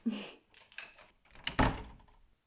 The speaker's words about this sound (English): So, are you going to open the door, or... Oh, it's unlocked? Okay, I'll just let myself in. All right, hope you're decent.